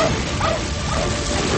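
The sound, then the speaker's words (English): A dog lets out a short burst of sharp, fairly loud barks and yips on command, over a dense, steady wash of background noise. “Get that dog!”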